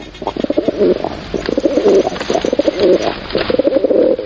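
A pigeon coos in a repeated series of soft, throaty, rolling calls, steady and fairly loud, with no talking.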